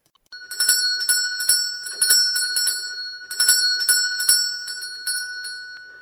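A small hand bell rings repeatedly in quick, uneven bursts, its bright metallic tone jangling and sustaining between shakes, with no voices present.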